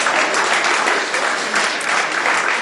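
Steady applause from a crowd, a dense, continuous wash of many hands clapping at once with no voices standing out, holding an even loudness throughout.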